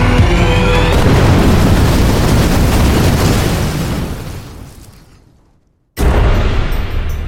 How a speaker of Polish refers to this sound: Jak gdyby nigdy nic, wyjeżdżając z Wilczego Szańca, usłyszał za plecami srogi wybuch. Była 12.42.